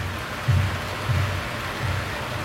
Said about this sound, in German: Alexa, spiele Regengeräusche.